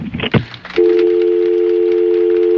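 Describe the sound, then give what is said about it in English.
A brief clatter of a handset being put down, followed by a steady, loud dial tone that hums on unbroken for about two seconds, with no voices. “All right, hang up the phone”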